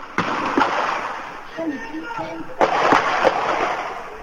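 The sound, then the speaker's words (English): Scattered gunshots crack out in a 4-minute police firefight between two brothers and police in Watertown, a few sharp reports spaced apart with a heavier burst midway, over a noisy, echoing outdoor background with indistinct voices. “Sound there from 2 years ago and the violent firefight between the Tsarnaev brothers and the Watertown police”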